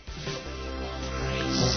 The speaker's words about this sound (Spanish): ¡Bee! ¡Anda, una cabra! ¿A quién se le habrá escapado?